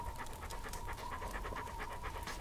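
A female dog named Junon pants rapidly and steadily, quick rhythmic breaths repeating for a couple of seconds with no voices.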